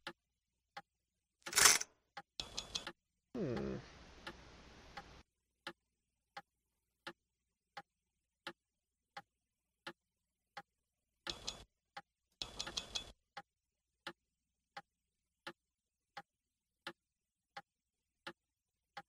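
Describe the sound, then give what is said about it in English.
A clock ticks steadily and evenly, one tick under every second, all the way through, broken a few times by short louder bursts of clattering, rustling mechanical noise. “I just wonder if the clock is like a doorway or something.”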